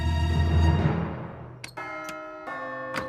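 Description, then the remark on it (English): Greg rings the doorbell at Fregley's house: it chimes, a ringing tone fading out, then a quick series of bright chime notes follows, clear with no voices. “Greg hesitates, then rings Fregley's doorbell.”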